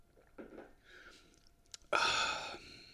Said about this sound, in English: I'm going to sip this coffee right now. It's working wonders for me. Mmm.